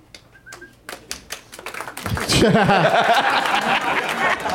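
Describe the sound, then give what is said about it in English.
A few scattered claps ring out, then thicken into a louder burst of applause mixed with laughter and excited voices from a small crowd celebrating an obvious correct answer in a movie quiz. “Smattering. That's the applause you get when everybody's just celebrating a crazily obvious answer.”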